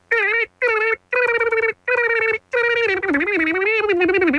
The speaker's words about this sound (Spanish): Que no hemos hecho la alarma de hiperdemocracia acá en la 94.1.